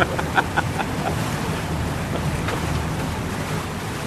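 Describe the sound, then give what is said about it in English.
A boat with large picture windows glides steadily across a still lake with islands, its engine a low, even drone under a soft wash of water and breeze, with a few faint clicks near the start. “The boat has huge picture windows, and the view as you glide along is picturesque.”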